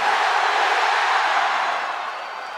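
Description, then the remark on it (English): A large pro wrestling arena crowd shouts "hell yeah" back in one loud, sustained roar of many voices, holding steady for about two seconds before easing off slightly. “If you want me to whip this sumbitch's ass, give me a hell yeah.”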